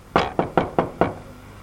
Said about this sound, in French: Il s'arrêta devant une porte vernie et il frappa.